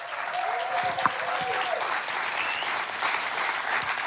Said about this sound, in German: lasst uns einen Applaus geben fürs ICF in Salzburg.